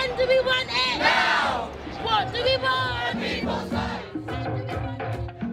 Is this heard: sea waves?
no